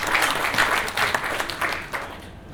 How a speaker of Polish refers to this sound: Wielkie brawa i dziękujemy panu doktorowi.